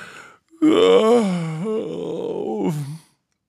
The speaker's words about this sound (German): … gähnt. Prompt gähnen … ebenfalls.